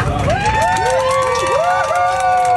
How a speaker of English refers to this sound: First of all, why are people cheering like that? People are cheering like they just said you can take two bags of chips instead of one.